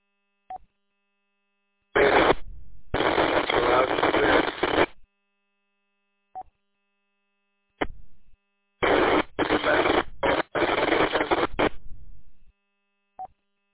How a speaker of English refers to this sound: You have an incredible amount of static and very soft.